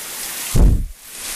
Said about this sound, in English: Well, outside, you know, it's thundering and raining. Just have a listen to this.